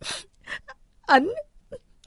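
A woman curled up in the back seat of a car, holding tissues, sobs after her boyfriend broke up with her: a few short, breathy gasps, then a loud, wavering, moaning wail that falls in pitch, followed by another shaky catch of breath. No words are spoken.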